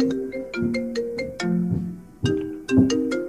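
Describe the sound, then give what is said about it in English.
A mobile phone ringtone plays a bright, repeating melodic phrase of chime-like tones, loud, cycling twice with a short pause between, with no talking over it. “Is that your phone, Teresa? Yeah, my phone's going off.”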